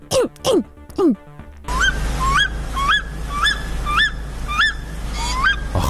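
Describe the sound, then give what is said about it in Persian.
A few harmonic honk-like calls, then a canary chirping in a steady run of bright, rising notes about twice a second over a constant low hum, loud and close. “خب پس یه تیری بیقرار و منتظر برو حال کنیم قناری.”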